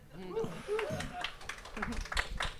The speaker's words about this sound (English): Yeah, give a little golf applause for that.